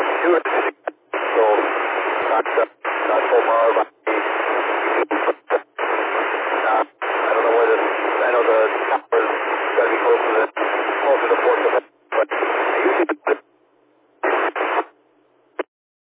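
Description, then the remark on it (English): A garbled two-way radio transmission from a sender at the edge of coverage, thin and band-limited, with unintelligible speech buried in hiss and static that keeps cutting out in choppy dropouts, the signal fading to silence near the end. “Missed all of that. You're getting to the end of your coverage there.”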